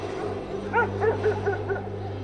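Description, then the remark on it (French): A dog barks and yelps five or six times in a quick, uneven series, over a steady low mechanical hum, with no one speaking. “quadrillé par les militaires, par les forces spéciales, par les chiens, survolé par les drones et les hélicoptères.”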